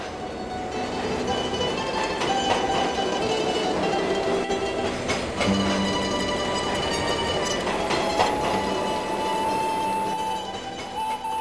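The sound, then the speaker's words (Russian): A train rolls steadily along the rails, its continuous rumble laced with high, metallic wheel squeals and faint clatter, with no voices throughout. “Иосифу казалось, что поезд никогда не доберется до цели.”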